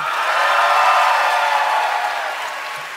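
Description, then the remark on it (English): An audience votes by applause, clapping and cheering loudly in a dense, steady wash of clapping with a few whoops, holding strong before tapering slightly toward the end. “All right, so now you guys are just going to vote based on applause.”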